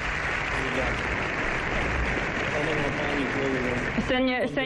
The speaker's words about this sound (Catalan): No, està parlant ja el senyor Zelensky en aquests moments. Ho estem veient per la televisió. Per tant, posem, sisplau, el so que ens arriba des del Congrés dels Diputats. Sentim els aplaudiments.